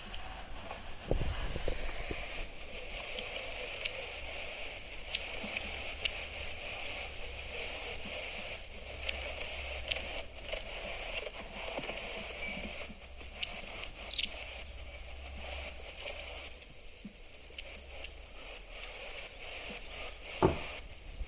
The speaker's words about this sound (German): Und man hört sie auch oft als erstes, wenn sie so hinein einfallen im Garten zum Beispiel, dann hört man sie. Soll ich mal abspielen? Ja, mach doch mal bitte. Die Schwanzmeise.